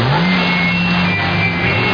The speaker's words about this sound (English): Captain, some nut went through here in a stolen car. Wants the base commander.